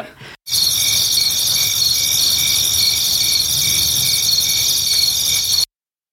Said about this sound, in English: And I suppose you can insert crickets here